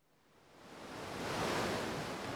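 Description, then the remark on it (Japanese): Ocean waves wash in a broad, steady hiss that swells to a peak midway and then holds, a single surge of surf with no voices present. “綺麗な海。”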